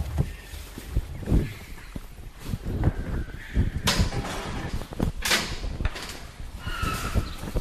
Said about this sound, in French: Donc là, on est en train de mettre des bottes.